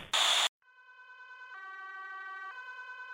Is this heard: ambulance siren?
yes